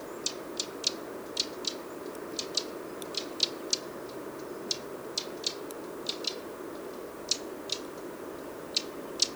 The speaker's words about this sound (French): je vais donc au fil de ma balade essayer d'enregistrer des oiseaux qui poussent des cris à cette époque. Petit troglodyte.